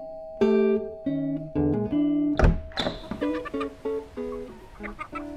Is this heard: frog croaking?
no